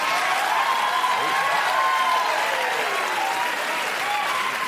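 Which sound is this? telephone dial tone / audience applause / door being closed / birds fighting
audience applause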